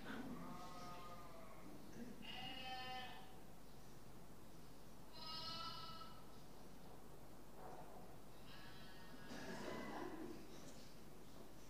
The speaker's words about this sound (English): Remember this sheep? Oh, didn't turn the sound off this one.